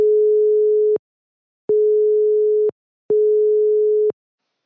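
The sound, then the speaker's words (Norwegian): A telephone ringing tone on an outgoing call to a University of Oslo lecturer and Middle East expert: three steady, clear one-second beeps at a single pitch, separated by short silences, fairly loud and alone with no talking. “Altså, det en fyr som kan ganske mye om dette her, så vi tror vi bare tar oss og plinger på til han.”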